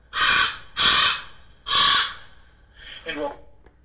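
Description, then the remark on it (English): A raven gives three loud, harsh croaking calls in quick succession, then a quieter, rougher fourth croak after a short pause. “But ravens are croakers.”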